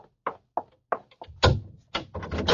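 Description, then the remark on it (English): A door is opened: several sharp latch clicks at a steady pace, then a heavier thunk and a rough scraping rush as it swings. No one speaks. “You lady, open the door.”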